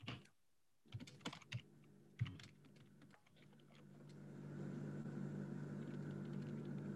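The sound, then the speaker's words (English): Scattered taps of typing blind without a real keyboard, a handful of quick clicks on a hard surface in short bursts, then a steady low rumbling hum builds and carries through to the end. No one speaks. “I'm typing blind without a real keyboard.”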